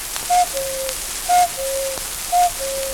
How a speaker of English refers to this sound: Oh, no, you can't turn the hands back without waking the cuckoo. I'll show you.